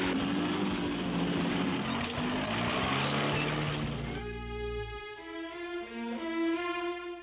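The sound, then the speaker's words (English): A strange car approaches, its engine rumbling and roaring loudly for about four seconds, then gives way to a string of steady, sing-song tonal notes with no talking. “a stranger approached in the strangest of cars.”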